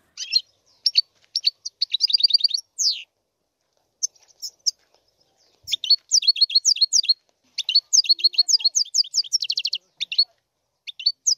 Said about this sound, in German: Le Chardonneret élégant, wie er auf Französisch heißt, der Distelfink, ist wegen seines Gesangs beliebt auf dem Schwarzmarkt in Frankreich.